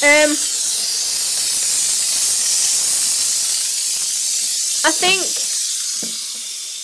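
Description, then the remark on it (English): A steady, loud hiss of a steam cleaner runs unbroken throughout, with a few brief voice fragments breaking in near the start and toward the end. “It is a bit wet though, obviously, because it's steam clay.”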